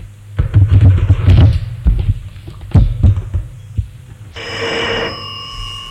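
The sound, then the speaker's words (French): After a stretch of dull, low thumping, a telephone in a police station starts ringing near the end: a single steady, bright electronic ring that stands alone with no voices. “Le téléphone sonne.”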